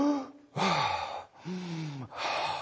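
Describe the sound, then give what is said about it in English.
A voice imitates people desperately gasping for air as they escaped once the doors were burst open: about four loud, ragged inhalations in quick succession, each breathy and rasping with a strained, voiced whine running through it. “Everybody was getting as much air as they possibly could.”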